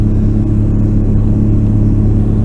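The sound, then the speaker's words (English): A steady, loud low-frequency engine rumble drones on without pause, with a deep hum and faint mechanical overtones, on a ferry in the Indian Ocean in the Maldives, travelling from the island of Fuladu to the island of Marfushi; no voices are heard. “I'm currently sat on a ferry in the Indian Ocean.”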